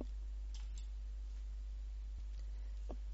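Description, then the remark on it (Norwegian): A few soft, isolated computer mouse clicks, spaced irregularly over a quiet background hum with no talking, as someone clicks on a procedure's title on a screen. “Jeg klikker på titlen.”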